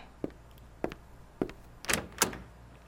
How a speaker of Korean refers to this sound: 선생님이 출석을 부르려는 순간 누군가 교실 문을 열고 들어왔다.